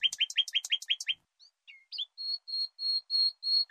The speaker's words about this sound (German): Man könnte also sagen, der Gesang folgt einem bestimmten Aufbau. Könnte man vielleicht sogar sagen, einer Art Satzbau? Das würde bedeuten, der Gesang der Singvögel erfüllte ein weiteres wichtiges Kriterium von Sprache, die Syntax.